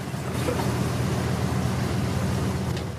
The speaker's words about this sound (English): drives up and stops outside the house.